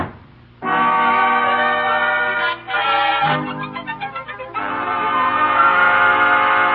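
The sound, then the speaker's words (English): A loud train horn blares in long, sustained chords, briefly breaking off and returning with a wavering, pulsing stretch before holding steady again. Dominant, with no voices. “He's on his way to the railroad station to get the 6 o'clock train for Albany.”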